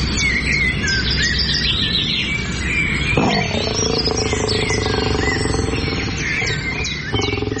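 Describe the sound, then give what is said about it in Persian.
Many birds chirp and tweet continuously in overlapping high, quick calls in Afghanistan, over a steady low rumble and a deeper animal-like growl that sets in partway through. Nobody speaks. “افغانستان زیستگاه ایوانات و پرندگان نادری است که در هیچ منطقه جهان نمیتوان آن را سراغ کرد، اما در برخی موارد یا از بین رفته و یا با خطر جدی انقراض مواجه است.”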